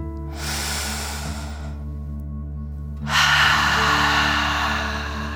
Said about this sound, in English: Breathe in through your nose, filling up your belly, and then out through your mouth, pretending you are breathing fire. Ready? Deep breath in and out.